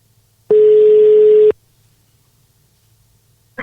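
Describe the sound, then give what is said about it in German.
A ringing tone from a call placed on a mobile phone sounds once, a steady, fairly loud one-second beep, followed by quiet hiss and a brief click-like sound at the very end. No one speaks. “Ist wir auch, rufen ja. ihn einfach an.”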